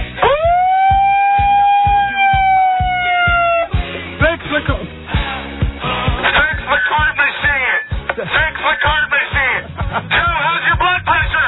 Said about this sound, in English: Let's see if the siren works.